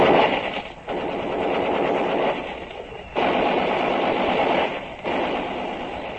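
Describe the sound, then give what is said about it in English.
Sustained bursts of rapid fire from a machine gun on top of a ridge during an infantry attack, a dense rattling stream broken by brief pauses into three long volleys, loud and harsh with no voices. “an hour of that, and we know we aren't going any farther until that machine gun on top of the ridge is knocked out.”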